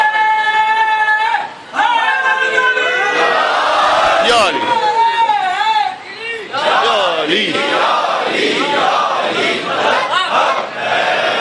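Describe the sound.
A large audience loudly chants salawat in unison, a dense swell of many voices rising and falling in pitch, sustained for several seconds with brief dips between phrases.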